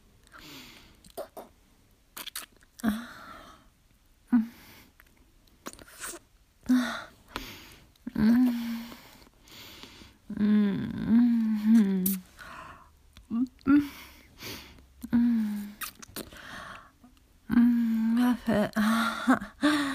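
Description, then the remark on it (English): Soft, breathy human whimpering: short, high-pitched whines repeat irregularly between gasping breaths and whisper-like exhalations, fairly quiet. “There's that whimper.”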